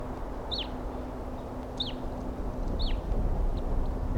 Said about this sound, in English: Pair of wild birds here. Two birds. One's a male and one's a female. And they're together up in a treetop, perched right next to one another.